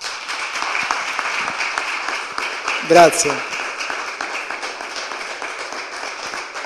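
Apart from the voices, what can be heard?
audience applause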